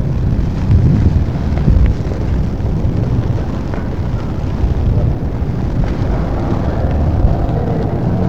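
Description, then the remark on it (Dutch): A fire engine rolls slowly closer, its heavy engine a steady, loud low rumble mixed with windy outdoor noise, lasting the whole stretch without a siren or voices. “Het is een brandweerwagen die langzaamaan komt rijden.”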